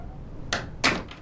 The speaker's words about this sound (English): Here, let's just close that door, shall we?